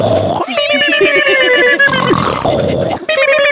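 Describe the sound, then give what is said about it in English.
Three people imitate snoring together in unison, producing loud, rasping, pig-like snorts with rapid rhythmic pulsing, broken into a few bursts over a few seconds. “And when we snore, it's in unison like the Three Stooges.”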